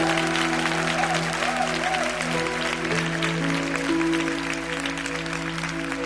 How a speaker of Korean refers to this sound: 할렐루야. 우리 하나님께 다시 한번 큰 영광의 박수를 드렸으면 좋겠습니다.